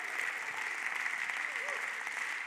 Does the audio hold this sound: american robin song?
no